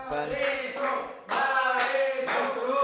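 A burst of applause with hands clapping steadily, mixed with cheering voices, swelling loud and continuing without pause for a few seconds.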